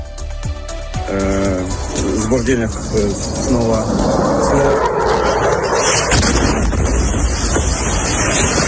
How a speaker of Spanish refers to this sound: Es el misil y ese ruido tremendo, ese silbido tremendo que de un misil que caía en la ciudad de Kharkov y que sorprendía pues a unos ucranianos que estaban en plena calle.